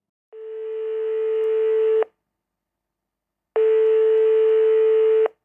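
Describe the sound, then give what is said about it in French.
A telephone ringing tone: two long, steady electronic beeps at one pitch, each lasting almost two seconds, separated by a pause of about a second and a half, clear with no voices. “Au téléphone.”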